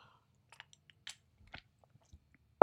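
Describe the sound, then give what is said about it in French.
Quiet sip from a small glass of water: a few soft wet mouth clicks and a small swallow spread over a couple of seconds, then an abrupt louder knock at the very end, with no talking. “Cette semaine, je n'ai pas oublié mon petit verre d'eau. Donc, je buvais une gorgée d'eau.”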